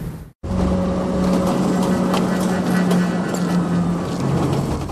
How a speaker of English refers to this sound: He watches her speed off in the cab.